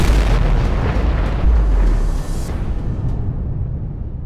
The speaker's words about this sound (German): Es ist eine derartig starke Explosion, die es noch nie gegen Menschen eingesetzt gegeben hat. Eine fürchterliche Kraft, die innerhalb von Sekunden alles unter sich zerstört.